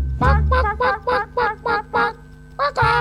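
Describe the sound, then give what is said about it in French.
A chicken clucking sound effect played on a Radio U jazz programme: about eight short, nasal calls in a quick run, evenly spaced and loud, over a low rumbling background, ending with a slightly longer squawk. “Un petit poulet.”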